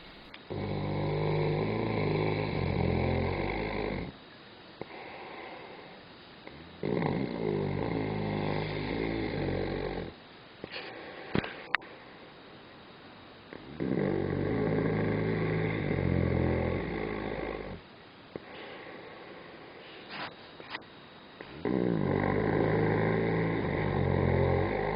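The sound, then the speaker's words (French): A hibernating bear snores: four long, deep, rumbling, drawn-out snores separated by quieter breathing pauses, loud with no talking. “Sais-tu ronfler comme un ours qui hiverne?”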